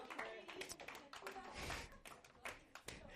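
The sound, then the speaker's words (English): An audience applauds a contest winner with a steady wash of many hands clapping for a few seconds, with some crowd voices mixed in. “Everyone give him a round of applause.”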